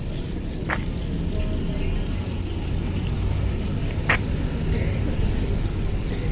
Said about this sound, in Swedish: Ja, nu börjar det strömma på här. Det kommer bussar från alla håll. Men det är ändå väldigt lugnt.